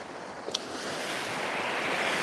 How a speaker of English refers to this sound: I hope the sound of the waves aren't too annoying. If they are, let me know and I'll move the camera.